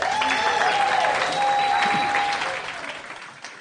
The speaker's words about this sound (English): A warm round of applause for her speech.